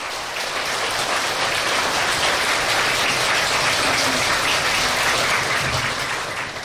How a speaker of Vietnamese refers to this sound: Xin đạo tràng chúng ta cho một tràng vỗ tay thật lớn và thật dài để cung đón Ni Sư.